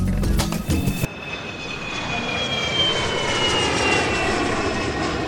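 A steady airplane engine drone fills the whole clip, with a broad roar and thin high whining tones that slowly bend in pitch, after a brief burst of clattering noise at the start.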